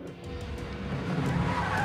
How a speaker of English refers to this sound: He screeches to a halt outside the airport.